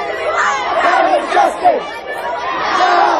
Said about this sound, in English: And while it may not have looked like a wave, it certainly seemed to make waves. Organizers asked people to make as much noise as possible.